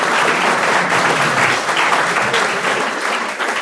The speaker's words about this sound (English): Round of applause